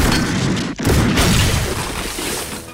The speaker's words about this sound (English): 1984, not a good year for sound effects when it came to gunshots, but I feel like this sounded all right. This is most of the movie sounded like this, so here's some of that.